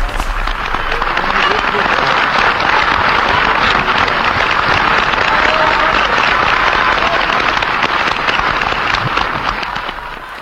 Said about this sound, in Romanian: Vino pe scenă, regele aplaudă. Auzi, auzi.